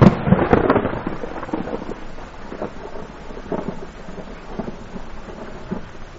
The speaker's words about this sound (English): Rain on the Horn of Mexico. The summer monsoon cracks where the sea meets the desert sky with a flash of lightning. Great fingers rake the sky with so much fire as to sear the eye. The clouds squeeze between the rattle of thunder and give way.